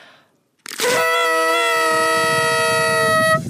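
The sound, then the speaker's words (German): A loud, brassy toy horn blares in one long sustained honk, starting abruptly after a brief quiet moment and holding a steady, buzzing tone for nearly three seconds. “Und darf ich noch einmal in die Tröte blasen? Ja, und komm, wir blasen noch mal gemeinsam.”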